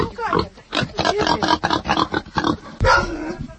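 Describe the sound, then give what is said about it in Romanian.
A piglet grunts and snorts in a rapid, uneven series of short bursts as a sack of straw is tossed to it, fairly loud and continuing throughout with only brief pauses. “a aruncat o desagă de paie la purcel.”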